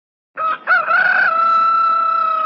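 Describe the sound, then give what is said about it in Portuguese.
A rooster crows once, loud, starting with a couple of short choppy notes before stretching into a long, steady, drawn-out call that holds to the end. “Quem não conhece o cântico do galo?”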